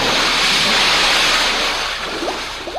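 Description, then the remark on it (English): A loud rush of churning water, like a big splash as something dives head-on from the Thames River Bridge into the very cold water of the Thames below, roars steadily as a broad wash of spray and then gradually eases off. There is no talking. “swoops out over the Thames River Bridge, higher and higher, until it pauses in midair and, glancing downward, then dives head-on, rapidly and surely, into the incredibly cold, cold water below.”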